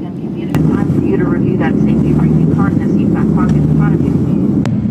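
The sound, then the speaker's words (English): A loud, steady roar of an American Airlines plane's engine in flight after a bird hit it, with flames shooting out from the engines, a few sharp pops or bangs cutting through and muffled voices talking underneath. “You can see flames shooting out from the plane's engines there.”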